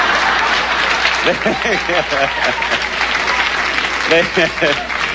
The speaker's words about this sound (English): But now it's reached the point, I've noticed, that the ovation and the standing is not really for me. They stand, and they applaud, and then they look up to see if they're on camera.